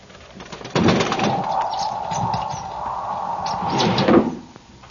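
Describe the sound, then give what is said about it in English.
At night, a bird flutters and flaps against a window sill in two brushing bursts, one near the start and one near the end, over a steady whistling drone of wind. “It was a bird. What kind, I could not tell. The wind must have driven it to shelter on the sill.”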